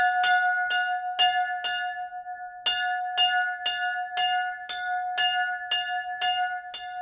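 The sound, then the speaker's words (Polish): A large bell, given as a First Holy Communion gift, is rung in a steady series of about eleven strikes. Each clang rings out with a sustained, humming tone between hits. Loud, with no voices. “Każdy tutaj dzwon ma swoją historię. Ten akurat, którym zadzwoniłem, to był prezent na pierwszą komunię świętą.”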